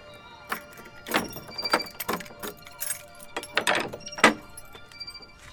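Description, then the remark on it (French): Keys jangle and clink, followed by metallic rattling and a few thunks as the large door of the Château d'If is unlocked and pushed open, with faint outdoor ambience behind. “Alors on va ouvrir la grande porte.”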